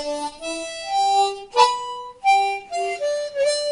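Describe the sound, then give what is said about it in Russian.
A harmonica plays a short riff made only of octaves, played without tongue slaps, reedy sustained notes stepping up and down in pitch, with a brief sharp break midway. It is fairly loud, with no talking. “То есть октавы идут без удара языком.”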